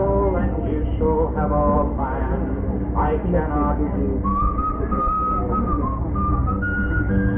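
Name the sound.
human whistling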